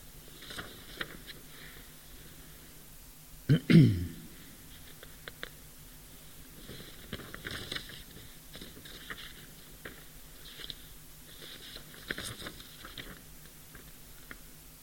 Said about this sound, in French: Alors, je crois bien que je suis en train de m'embrouiller dans mes papiers. Ça, c'est pas étonnant. Je crois que c'est celui-là.